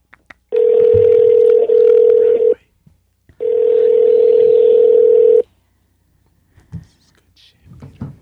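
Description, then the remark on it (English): A steady, fairly loud telephone tone from a phone call being placed sounds in two long bursts of about two seconds each with a short gap between, followed by faint, soft voice sounds near the end. “Let's just give them another call.”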